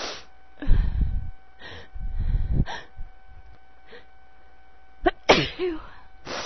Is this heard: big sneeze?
yes